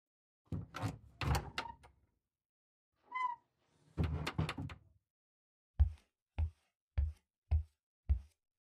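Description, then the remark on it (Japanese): A customer's shoes are tucked into a wooden shoe cabinet at a shop called Yurameki: clattering door and shelf knocks, a brief squeaky creak, more rattling, then five soft, evenly spaced thumps. No one speaks. “靴箱の中へ入れておきますね。”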